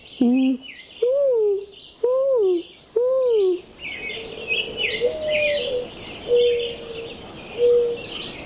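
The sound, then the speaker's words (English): A person imitates a mourning dove's coo with four loud, evenly spaced hooting notes, followed by softer, drawn-out low coos while small birds chirp steadily in the background. “I can imitate a mourning dove.”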